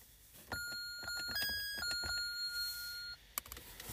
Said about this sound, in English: give me the buzzer.